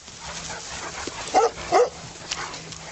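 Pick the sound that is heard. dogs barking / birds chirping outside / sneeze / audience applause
dogs barking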